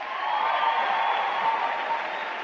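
A live audience at an Ellen DeGeneres stand-up comedy performance claps steadily throughout after being asked who likes cats more than dogs, a dense, even wash of many hands at moderate loudness with no voices rising above it.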